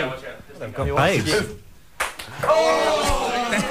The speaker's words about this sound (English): That's the sound. That's the dull thud of a plastic ball on bare back. Yes, it's a game of sting pong,